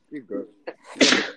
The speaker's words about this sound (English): Hey, brother. Bless you. Oh, sneeze.